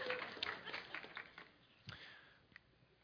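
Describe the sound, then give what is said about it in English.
A short burst of scattered audience applause for the speaker's wife, quiet, with irregular claps that thin out and fade over a few seconds. “Give my wife a round of applause here.”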